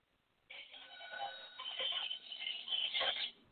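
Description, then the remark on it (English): A cash register sound effect rings out after a brief pause: a bright, jangling bell-like clatter that lasts about three seconds, fairly loud and slightly tinny, with no talking over it. “That's a cash register.”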